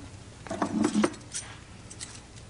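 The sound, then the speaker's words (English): A bunch of keys jingles for about half a second as they are handed over, a quick cluster of bright metallic clinks, then a couple of fainter rattles as they settle. “There lies the Duke, see. There are the keys.”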